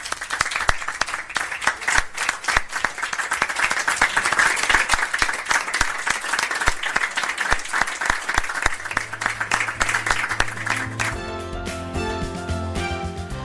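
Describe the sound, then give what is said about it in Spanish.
Sustained applause at an ordinary plenary session of Laredo town council, after the unanimous vote naming a street Juan Antonio Arconada: dense, steady clapping for about eleven seconds, then it gives way to sustained musical tones. “¿Votos a favor? Se aprueba por unanimidad. Un aplauso.”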